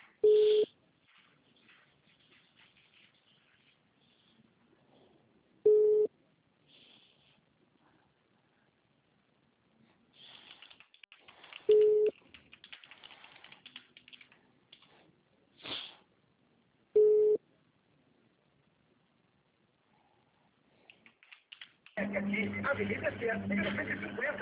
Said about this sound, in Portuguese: que ela está no telefone, dando sinal de ocupado.